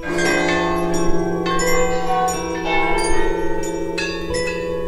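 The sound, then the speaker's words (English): Layered, shimmering electronic bell tones from the electronics part of an orchestral piece, triggered by players on iPads, ring out continuously with new bright strikes entering every second or so over a sustained humming drone, fairly loud with no voices. “The electronics part from the piece that the SCO are going to play, so all the bell sounds, and hand over control of that to them, so they've got iPads so they can trigger the bells whenever they want.”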